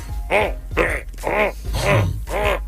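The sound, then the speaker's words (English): A person imitates a baby's grunting with five strained, voiced grunts in a steady rhythm, each rising and falling in pitch, fairly loud with no other talk. “I have been in the baby bubble dealing with the booby bully, the grunter. Man, the grunting that's happening in this house?”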